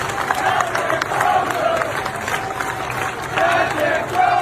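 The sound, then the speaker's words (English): The crew of a San Diego-based aircraft carrier cheers and shouts Captain Crozier's name as he is forced off the ship, a loud, dense wall of voices that swells in rhythmic bursts like chanting, continuing for several seconds. “Now, when he was forced off the ship, the crew showed their appreciation of taking it to the mat for them by shouting his name.”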